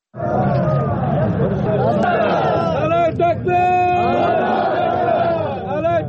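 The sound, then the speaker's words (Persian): A crowd in Sheberghan, capital of Jowzjan province, Afghanistan, shouts and chants loudly together in opposition to the war, many raised voices overlapping in a continuous roar of rising and falling calls that fills the whole clip. “در شهر شبرخان مرکز ولایت جوزجان هم گروهی از مردم نعره سر دادند و مخالفتشان را با جنگ ابراز کردند.”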